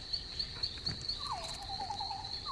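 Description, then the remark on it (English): A thin, wavering mosquito whine drifts in partway through as a mosquito flies at a man eating pizza, rising and dipping in pitch, over a steady high-pitched insect-like drone that runs throughout. No one speaks. “There's the mosquito. There's a mosquito.”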